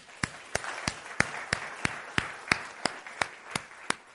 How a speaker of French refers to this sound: Oui, on peut applaudir.